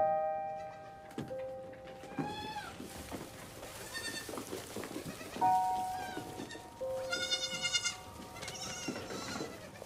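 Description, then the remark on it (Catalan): Several goats bleat in overlapping, wavering cries, some louder than others, over a steady hiss of background noise like rain. No one speaks. “I el tema de les cabres, que hi ha la castreta del tema de les cabres, doncs acabem de desenvolupar-ho, perquè ja havien sortit aquestes cabretes a la primera temporada.”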